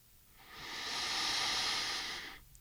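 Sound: deep inhalation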